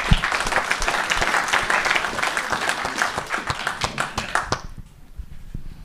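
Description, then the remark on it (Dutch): A crowd applauds steadily with dense, overlapping clapping for about five seconds, then the applause quickly fades out into near silence. “En ik denk nogmaals gewoon een groot applaus daarvoor.”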